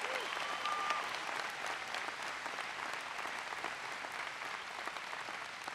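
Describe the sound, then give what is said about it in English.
A crowd in Montana applauds former Colorado Senator Ken Salazar steadily, a dense wash of clapping that stays fairly even in loudness for several seconds with no voices standing out. “Please give Ken a big round of applause.”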